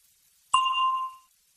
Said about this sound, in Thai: ก่อนท่านจะตอบคำถามที่ว่านั้นให้ท่านรอฟังเสียงกระดิ่งดังขึ้นก่อน